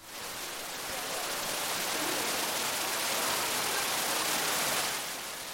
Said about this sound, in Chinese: 走过黄金路，突然听到了水声，原来是瀑布的声音。